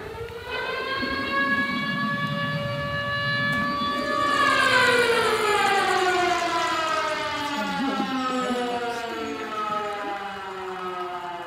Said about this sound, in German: dann kann ich zum Beispiel schnell eine Sirene abfeuern.